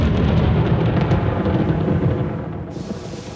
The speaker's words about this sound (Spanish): Los tres observan las nubes con preocupación, pues amenazan tormenta. Se resguardan de la lluvia en un pequeño oratorio del camino.